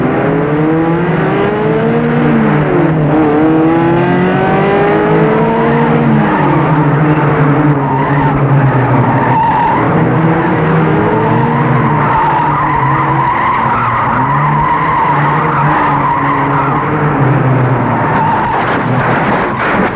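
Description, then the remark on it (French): A car drives fast on a wet, slippery road after rain, its tires squealing and skidding in long wavering sweeps over a steady engine roar. Loud throughout, with no voices. “Deux heures plus tard, il a pris sa voiture. La route est glissante, il a plu.”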